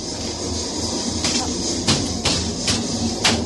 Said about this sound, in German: Ist das der Maschinenraum? Ja, hier ist der Maschinenraum. Sehr laut. Boah, das ist ganz schön laut. Normal ist es noch 5-mal so laut. Oh Gott. Und jetzt wird es noch lauter.